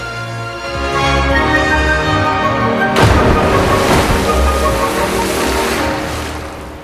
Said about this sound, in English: The replica trundles on out of control. It crashes down a steep bank and breaks up as it plunges into a river.